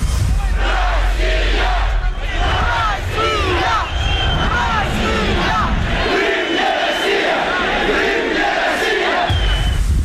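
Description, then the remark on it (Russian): A dense crowd of tens of thousands at a rally outside the Supreme Council of Crimea on 26 February 2014 roars with overlapping shouts and chanting, some for Ukraine, others for Russia, loud and continuous throughout, many people yelling at once with no single voice standing out. “Народу было много. Каждый кричал свое. Мы за Украину кричали, они за Россию кричали.”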